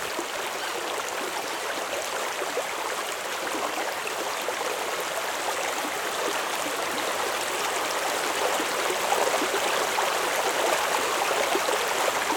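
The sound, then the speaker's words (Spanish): A steady, continuous rush of flowing water, like a waterfall, at constant loudness for the whole stretch, with a dense hiss and faint gurgling texture and no voices. “Sería chévere que estuviera en un árbol también, pues como el sonido de una cascada, del agua, en ese contexto, como estar tranquila, paz, como desconectarme de todo.”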